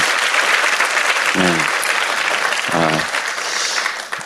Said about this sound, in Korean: 거의 지금 몽롱한 상태로 왔지만 얼마나 기특한지 모르겠습니다. 우리 중고등 학생들에게 한번 격려의 박수를 드리겠습니다.